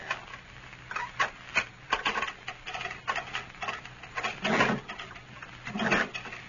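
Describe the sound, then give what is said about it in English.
A cell door is unlocked with keys and shoved open: a series of sharp metallic clicks and rattles, then a longer grinding scrape as the heavy door slides back, with no voices. “Just unlock the door now, Lum, and shove it back open that way for me.”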